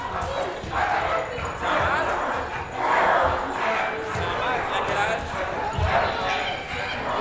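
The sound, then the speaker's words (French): Several people bark and yip like dogs in overlapping bursts, a lively group of human voices imitating a pack, with scattered thumps underneath. “Rien n'est évidemment obligatoire, mais les chiens peuvent se promener, se sentir le cul, se grimper dessus, se frotter sur les maîtres ou maîtresses.”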